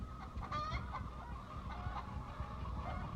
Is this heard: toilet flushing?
no